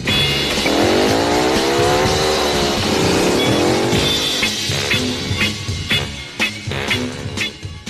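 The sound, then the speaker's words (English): A motorcycle engine revs loudly, its pitch sweeping up and down several times before it roars off, followed by a few sharp bursts as it pulls away. “So would you girls mind stepping off my motorcycle?”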